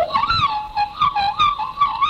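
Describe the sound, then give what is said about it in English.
A student in the Bega Valley, on the far south coast of New South Wales, imitates a magpie's call in traditional bird calling: a continuous warbling, gurgling whistle that swoops up and down in pitch in short repeated phrases, fairly loud, with no talking. “What can you do? A magpie. Well, let's hear a magpie.”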